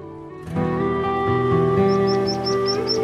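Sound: bird singing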